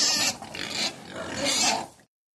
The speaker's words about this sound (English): And this little pig went wee, wee, wee all the way home.